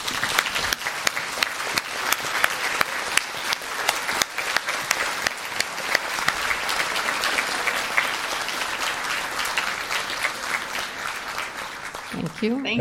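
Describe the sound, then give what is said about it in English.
A sustained round of audience applause, dense clapping at a steady, fairly loud level for the whole stretch, with a brief voice creeping in right at the end. “So with that, we will say thank you very much, and we will applaud.”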